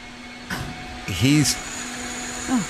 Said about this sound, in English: How goddamn loud it is outside. He's 4 feet away from where these guys are operating a wet saw.